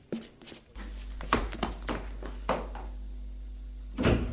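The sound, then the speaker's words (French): A door at the end of a corridor in a hotel, leading to the attic, creaks and clunks open over a low steady hum, with a series of knocks, scrapes and rattles as it moves, ending in a louder thump. “Puis, au bout du couloir, il y a une porte qui doit communiquer au grenier. Ils y vont.”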